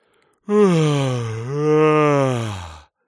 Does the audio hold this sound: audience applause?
no